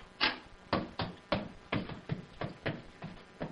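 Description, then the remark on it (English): A door being opened, with a quick series of about eight sharp wooden clunks and rattles in an uneven rhythm, fairly loud, with no voices. “Come on, Rusty. Open the door.”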